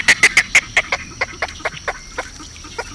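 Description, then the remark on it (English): A small, slender snowy egret with fine white feathers and long, lacy plumes gives a rapid series of harsh, raspy calls, about a dozen evenly spaced croaks that start loud and gradually soften over a few seconds, with no talking. “The beauty of the small, slender, snowy egret is in its fine white feathers and long, lacy plumes.”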